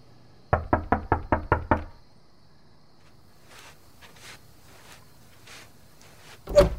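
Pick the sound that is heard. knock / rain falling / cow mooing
knock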